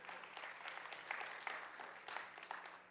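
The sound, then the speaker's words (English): A church audience at a morning service claps together in steady, dense applause, a continuous patter of many hands at a moderate level with small swells throughout, and no one speaking over it. “Let's clap.”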